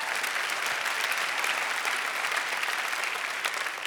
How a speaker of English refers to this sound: But it was, you can clap, thank you so much.